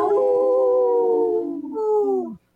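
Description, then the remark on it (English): A person imitates a wolf howl for a Howling for Wolves sponsor spot on Native Roots Radio: a loud, sustained wavering tone that briefly breaks, then resumes and slides downward before cutting off. “This portion of the show is supported by Howling for Wolves, protecting wolves for future generations.”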